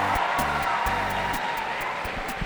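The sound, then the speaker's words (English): A crowd of wedding guests cheers in a steady, dense roar of many voices, with sharp bursts that may be clapping and some low, humming tones mixed in. “You can hear everybody cheering there.”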